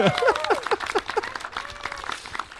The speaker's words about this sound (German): ein Applaus für